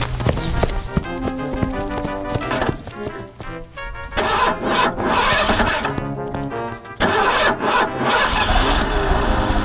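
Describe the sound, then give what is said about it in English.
A car engine cranks and sputters loudly, rattling and clattering in uneven bursts with brief pauses before revving into a rough, continuous run. No one speaks. “Get the car going!”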